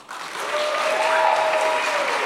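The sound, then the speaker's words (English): An audience bursts into applause to vote for liking the Succession series finale, quickly swelling to a dense, steady wash of clapping that holds strong for a couple of seconds, with a few faint cheers or whistles mixed in. “So by sound of applause, who really liked the Succession series finale?”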